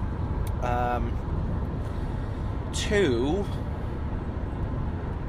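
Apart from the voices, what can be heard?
car driving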